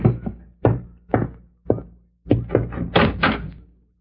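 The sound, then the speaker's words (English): A door is opened for a visitor: several sharp wooden thumps at uneven intervals, then a quick cluster of rattling knocks and latch clatter, with no voices. “Someone's at the door.”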